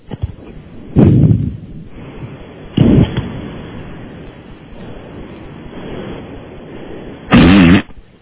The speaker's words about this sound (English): Don't say anything. Breathe through your nose. I don't want to hear... Close your mouth. We just want to hear your sinuses work. Ready? 30 seconds. Just breathe through your nose and put the phone up by your nose. Go.